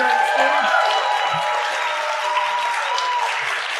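An audience at a live event applauds its guests in a steady, dense wash of clapping that holds at an even loudness for several seconds, with no clear talking over it.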